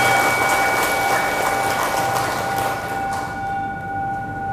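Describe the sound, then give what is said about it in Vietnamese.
A dense, crackling wash of clapping from a crowd of Buddhist followers at Hạnh Lâm temple, steady and loud, with faint sustained tones humming underneath, then thinning out and tapering off in the final second. “Xin tất cả hãy dâng cao một tràng vỗ tay thật lớn để tán dương.”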